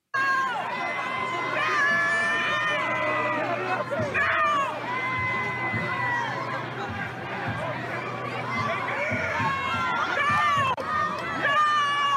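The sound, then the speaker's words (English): A loud protest crowd shouts and yells at police, shouting "F the police", many overlapping voices rising and falling in a continuous din that never lets up. “here are some of the protesters shouting F the police”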